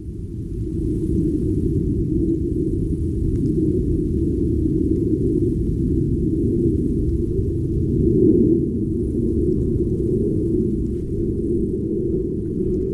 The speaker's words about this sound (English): This is the sound of a jet flying above 18,000 feet over Olympic National Park, a sound that the FAA finds not important